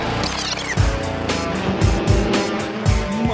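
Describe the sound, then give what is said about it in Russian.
Car engines rumble and rev loudly and continuously, with deep rhythmic thumps underneath like vehicles starting up and pulling away. No one speaks. “Моторы.”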